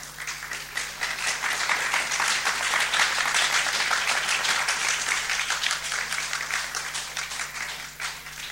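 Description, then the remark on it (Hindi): A crowd applauds steadily for several seconds, many hands clapping in a dense, sustained patter with a slight dip near the end, no voices standing out. “ताली बजाने से सब कर्म नष्ट हो जाते हैं, स्पेशली डीटीज के सामने।”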